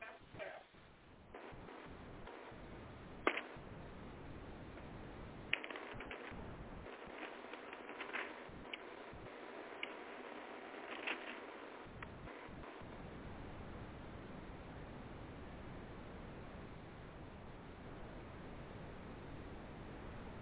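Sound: bible pages turning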